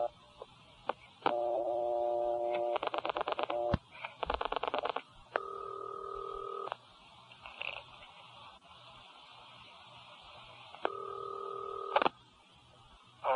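Telephone line sounds: a steady dial tone, then bursts of rapid dialing beeps, followed by more sustained tones separated by pauses, fairly loud over a faint hiss, with no talking.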